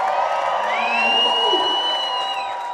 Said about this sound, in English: All right, I want to thank everybody for coming out one last time, Portland Happy Wheels. I want you all to give a big scream and yell